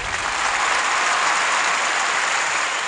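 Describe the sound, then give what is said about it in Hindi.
Steady, dense applause sound effect, added by the show's recordist, from many hands, a continuous clattering wash of claps at an even level throughout, with no voices over it. “देखिए ये तालियां भी यहाँ जॉन ही ने खुद लगा दी, मगर बहनों भाइयों तालियां जायज हैं जॉन के लिए भी और नजमा के लिए भी।”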